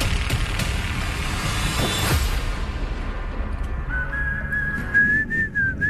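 Over a rumbling, noisy background, a person starts whistling a jaunty tune partway through, a clear, close, bouncing melody that lasts a couple of seconds with no talking.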